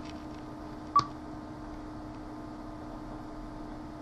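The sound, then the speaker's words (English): A single short, bright electronic beep from a screen reader sounds once, standing out clearly over a steady low hum and faint background hiss, with no talking. “You hear the beeps going in higher pitch.”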